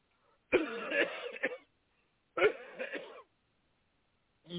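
Two harsh, rasping coughs about two seconds apart, each lasting roughly a second, with the start of a third at the end. They are close and fairly loud, with no talking.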